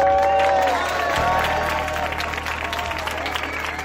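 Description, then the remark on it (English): A large crowd outside a Catalan polling station on Sunday claps steadily and loudly for local Catalan police, a dense rattle of many hands that keeps going throughout, with raised voices chanting "We will vote" over the applause. “People gathering outside a Catalan polling station Sunday were applauding local Catalan police and chanting, "We will vote."”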